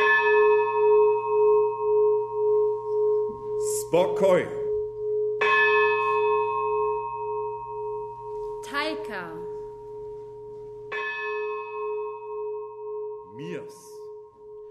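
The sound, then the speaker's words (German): A large peace bell at the village church of Brück-Rottstock rings, struck about three times at slow, even intervals, each strike leaving a loud, resonant hum that lingers. Short bursts of speech come in between the strikes. “Bei der feierlichen Weihe der Friedensglocke vor wenigen Wochen in der Dorfkirche Brück-Rottstock bekam man bereits eine Ahnung davon.”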